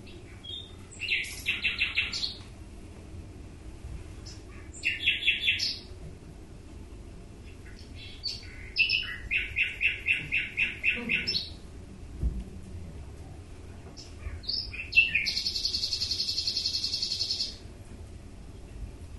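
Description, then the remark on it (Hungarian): A male nightingale sings alone in varied, loud phrases: rapid repeated trills, buzzy rattles and sharp whistled notes separated by short pauses, over a faint low rumble of background noise. “Ez csalogány úr volt, egy hím csalogány volt.”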